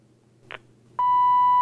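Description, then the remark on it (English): A soft button click, then a ringtone preview on an Oasis phone, selected in its ringtone menu, starts as a loud, steady electronic beep tone that holds without a break to the end. No one speaks. “I'll push yes to go into this menu, and it will preview some ringtones for us.”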